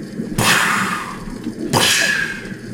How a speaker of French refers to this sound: Et les coups de feu donc retentissent. D'abord un isolé, puis deux, puis les coups de feu s'enchaînent. Et ils se déplacent.